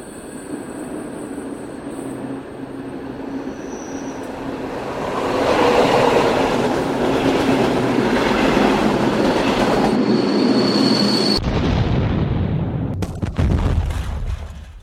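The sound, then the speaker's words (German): A train rumbles and clatters steadily, swelling louder midway, then the noise abruptly shifts into a harsh jolt and crashing clank near the end as the train derails at a station and crashes into a buffer stop. “Am Bahnhof entgleiste der Zug und crashte gegen einen Prellbock.”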